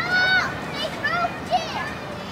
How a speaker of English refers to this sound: The sound of all the kids laughing and screaming is so joyous. It doesn't sound like nails on a chalkboard at all.